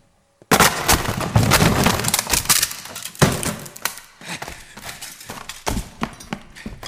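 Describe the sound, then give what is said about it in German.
A door is forced open with a sudden loud wooden crash, followed by several more thudding impacts and a rattling, splintering clatter that gradually fades. No voices are heard. “Brechen Sie die Tür auf!”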